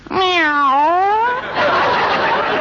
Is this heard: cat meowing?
yes